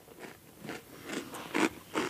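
Close, wet chewing and crunching in a steady rhythm, about five bites over two seconds, with the last two louder. No one speaks.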